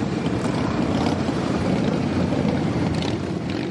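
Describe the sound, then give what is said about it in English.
A dense, continuous rumble of thousands of motorcycle engines in the nation's capital for the Rolling to Remember Memorial Day ride, loud and steady throughout, with a heavy low-end drone and no voices. “Thousands of motorcycles are in the nation's capital.”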